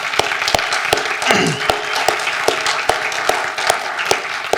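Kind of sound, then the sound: crowd, audience applause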